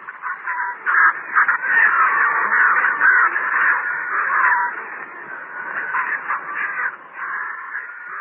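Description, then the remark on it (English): A crowd of scavenging birds cawing loudly and continuously, many harsh calls overlapping into a dense, restless racket that stays steady throughout, as the birds come down to eat a dead bull elephant with heavy tusks by tall timber on a ridge sloping down to a river. “The birds were preparing to kill, preparing to begin their foul.”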